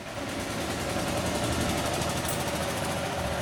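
The motorcycle engine of a three-wheeled auto rickshaw runs steadily as it brings five widows, a rapid rattling, buzzing putter that stays loud and even throughout with no voices.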